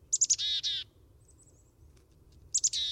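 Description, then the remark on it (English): Two clear chickadee calls, each a few quick high notes followed by harsh buzzy ones, one at the start and one at the end, over a faint low rumble. “chickadee adults stop feeding them and may even turn aggressive, meaning it's time for the youngsters to disperse and feed themselves”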